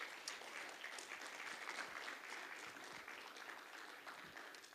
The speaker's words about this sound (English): Clap y'all's hands one more time.